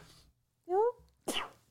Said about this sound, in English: Oh, I got to sneeze.